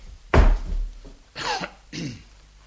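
A door is slammed shut by a person leaving, with one sharp, heavy bang, followed by two shorter, rougher bursts of sound a second or so later.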